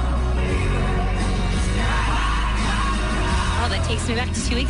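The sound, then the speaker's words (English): A loud, dense wash of concert crowd noise with steady booming bass underneath, voices cheering, whooping and singing along together, and a few higher sung notes rising out near the end. “Everybody was singing along, and oh, man, it was great.”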